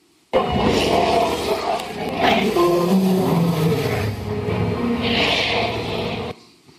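dinosaur roar

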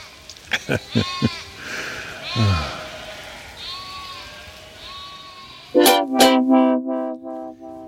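sheep bleating

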